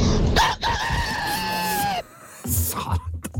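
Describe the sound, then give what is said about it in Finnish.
A person imitates a rooster's crow with one long, loud, wavering call held for about a second and a half, followed by a short burst of voice and noise. “Kukko tulee seuraavaksi sitten”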